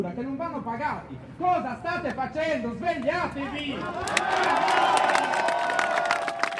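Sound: protest crowd shouting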